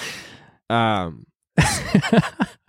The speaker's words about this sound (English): why are you breathing so heavily? What are you doing?